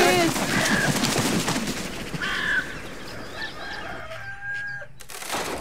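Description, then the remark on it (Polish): A rooster crows loudly after midnight, its drawn-out call rising and falling, followed by a shorter crow amid faint background noise and bird chatter. “Przeszła północ, kogut wieje.”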